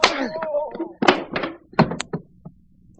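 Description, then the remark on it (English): A scuffle with a few heavy, dull thuds of blows landing, mixed with strained grunts and groans, then a final solid thump as a man with one good arm knocks another man unconscious and the struggle goes quiet. “I only got one good arm, and I knocked this guy stiff.”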